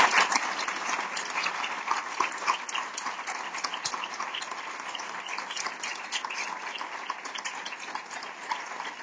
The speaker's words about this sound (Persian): و اون شرکت قدرتمند سیمرغ. خواهش میکنم به افتخار یه تشویق بگم.